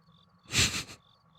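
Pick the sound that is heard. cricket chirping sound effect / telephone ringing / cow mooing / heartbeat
cricket chirping sound effect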